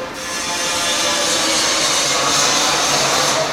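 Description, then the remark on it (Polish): Workshop noise dominated by a loud, steady power-tool whine, like sawing or sanding wood, running without a break; nobody speaks. Carpenters are at work in the Zakład Techniki tram workshop, where M8C-type trams are being modernized. “Znajdujemy się na terenie Zakładu Techniki, jak panowie widzicie. Dookoła nas są modernizowane tramwaje.”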